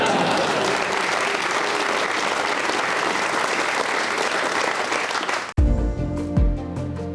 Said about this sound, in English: As Boris sat down at the end of PMQs, the Tory MPs all stood and clapped.